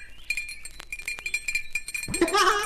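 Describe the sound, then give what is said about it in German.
A small bell rings with a bright, high tinkling tone, struck repeatedly in quick irregular jingles, followed near the end by a louder, rougher burst of sound. “Und da habe ich eine kleine Klingel.”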